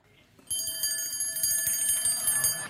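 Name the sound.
alarm clock ringing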